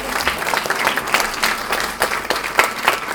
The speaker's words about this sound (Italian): Quindi fare un applauso a entrambi, a Fassino e Chiapparino, che sono in altre manifestazioni.